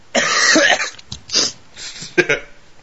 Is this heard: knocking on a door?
no